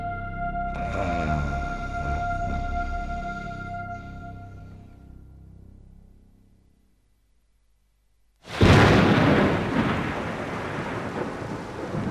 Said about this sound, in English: Oh, no. Morning already, and it's raining.